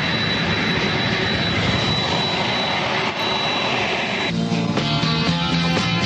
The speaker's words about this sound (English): Eastern Air Express, just an unmarked plane. I don't see a tail number on it. It's being loaded up with busfuls of illegal aliens.